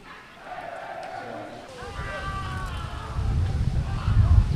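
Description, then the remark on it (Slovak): A lively crowd on a main street, preparing for an evening match, with many overlapping voices chattering and murmuring. A low rumbling bed of noise swells steadily, growing louder and busier toward the end. “Počujeme, že na hlavnej ulici to žije, príprava na večerný zápas.”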